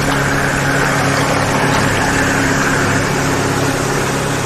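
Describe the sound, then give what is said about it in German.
A motorboat passing directly by drones loudly and steadily, a low humming rumble with a broad wash of churning water noise over it and no voices. “Das Motorboot kommt direkt an uns vorbei.”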